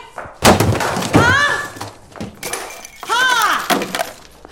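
A phone is thrown and slams into something twice, two loud sharp crashing thuds a couple of seconds apart, each followed by a strained, pitched vocal outburst.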